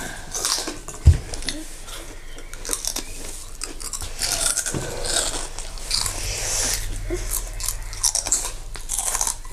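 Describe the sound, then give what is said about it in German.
Crisp crunching as someone bites into a crunchy snack and keeps chewing, with a sharp bite near the start followed by steady, noisy mastication and no talking. “Okay, ich esse auch mal welche.”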